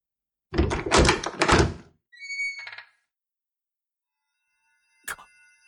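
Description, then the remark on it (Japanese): A heavy door rumbles and scrapes open, followed by a brief ringing mechanical tone, then silence before a sharp thunk. No one speaks. “扉が何だよ。”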